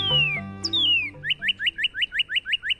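A bird sings a couple of long, clear, descending whistles, then a fast, even run of about a dozen bright, repeated upslurred chirps, loud and alone with no talking.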